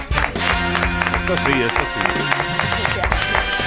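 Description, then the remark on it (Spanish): A TV studio audience applauds the female guest, a steady wash of clapping that fills the whole clip, with music and cheering voices mixed underneath. “No, y fría, porque en este programa se aplaude a la invitada.”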